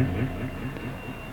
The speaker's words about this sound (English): I think I can actually hear a whistle in the background.